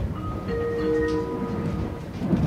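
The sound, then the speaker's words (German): Steady interior rumble of a moving train shortly before Bern, after the Grauholztunnel, with a low continuous roar and faint high-pitched whining tones as the carriage slows, no voices present. “Die Fahrt bleibt ab jetzt aber reibungslos und schon kurz vor Bern, nach dem Grauholztunnel”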